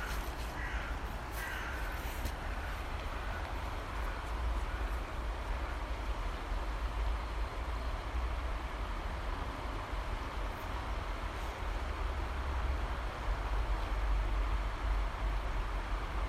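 nature, river flowing

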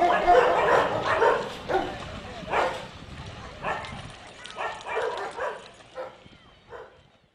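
animal, dogs barking

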